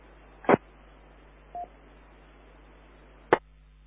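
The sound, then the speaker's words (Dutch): A single short telephone keypad tone beeps once, set between two sharp static clicks over a steady low hiss, with no voices. “Nou, die heb misschien even een telefoonoproepje.”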